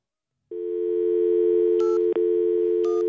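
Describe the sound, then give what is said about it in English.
A steady telephone dial tone hums loudly after a half-second of silence, broken by a brief click and then a couple of short, high keypad beeps as a number starts being dialed to reach an absent student using a phone number on file at Robeson High School. “I start with the phone.”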